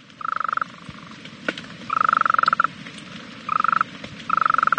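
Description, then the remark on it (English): A golden toad, a species of the elfin cloud forest in the high mountains above Monteverde, Costa Rica, calls in four short, rapid pulsing trills separated by brief pauses, clear over a soft background hiss, with no talking. “The golden toad's voice wasn't much, but its story read like a fairy tale.”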